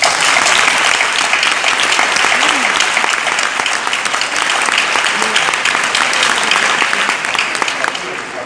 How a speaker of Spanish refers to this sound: Yo, un último aplauso.